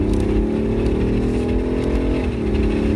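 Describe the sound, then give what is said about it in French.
A powerful M50d six-cylinder quad-turbo diesel car engine of 400 horsepower and 760 Nm of torque revs steadily, a deep sustained rumble with rising and falling harmonics and no voices over it. “On a essayé le M50D, 6 cylindres, diesel, quadriturbo, turbo, 400 chevaux, 760 Nm de couple.”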